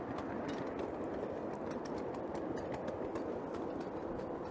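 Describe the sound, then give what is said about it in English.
A steam locomotive labours harder as the regulator is opened more, its rapid chuffing blending into a continuous, dense rumble and mechanical clatter that holds steady throughout, with no voices. “If I open the regulator more, that goes up. You can hear it working harder.”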